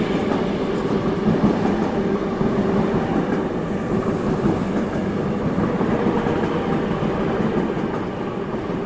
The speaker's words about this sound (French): Aux abords de la nef roulaient des trains aux wagons poussiéreux et opaques.